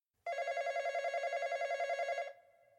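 A single loud telephone ring, a bright buzzing tone with a fast warble that holds steady for about two seconds before cutting off and trailing into a faint hum. No one speaks.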